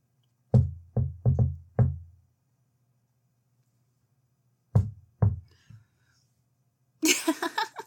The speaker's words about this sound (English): Just knock on the door.